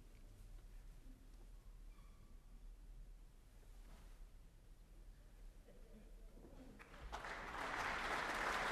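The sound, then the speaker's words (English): A concert audience at the National Concert Hall murmurs and rustles quietly, then bursts into loud, sustained applause for Alan Smale, leader of the RTE National Symphony Orchestra, a dense patter of many hands clapping through the final seconds. “Applause for the leader of the RTE National Symphony Orchestra, Alan Smale.”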